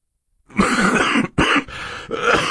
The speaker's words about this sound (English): Mr. Poe said, coughing into a white handkerchief